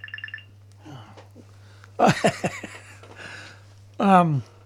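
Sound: mobile phone ringing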